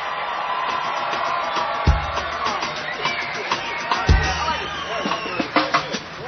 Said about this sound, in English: How about a nice round of applause and congratulations